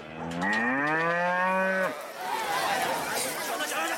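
A single loud cow moo lasting under two seconds, rising slightly then cutting off, followed by a wash of indistinct background noise.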